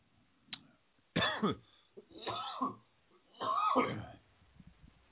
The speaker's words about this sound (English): I should hit my cough button, shouldn't I? But I'm not.